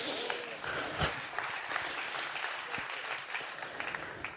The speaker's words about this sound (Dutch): Applaus voor God.